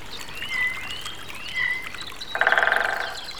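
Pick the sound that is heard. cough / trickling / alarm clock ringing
trickling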